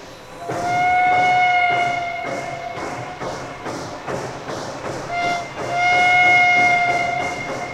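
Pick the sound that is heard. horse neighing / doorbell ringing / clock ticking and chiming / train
train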